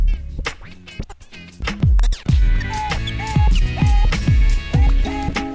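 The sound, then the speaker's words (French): Turntable scratching cuts back and forth in quick, rhythmic bursts over a pulsing beat with deep kick drums, loud and up front, with no talking. “DJ Taichi, parle avec tes mains.”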